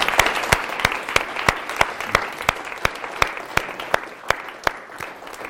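An audience applauds steadily for several seconds, a dense wash of clapping with a few sharp, louder individual claps standing out in a regular rhythm, easing slightly toward the end.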